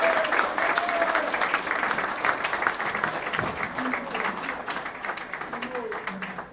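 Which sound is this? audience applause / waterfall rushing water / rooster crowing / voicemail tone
audience applause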